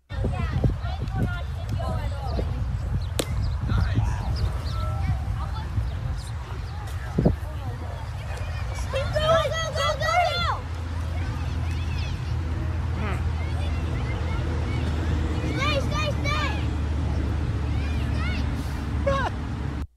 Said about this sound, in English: When you hear the audio of a young Schwartz stroking the double into left center field that Pete then posted on Twitter, it does give you all the feels, doesn't it? Let's play this clip one more time. Just you get to hear the roar of the crowd.